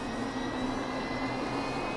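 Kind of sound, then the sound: vehicle, helicopter engine starting up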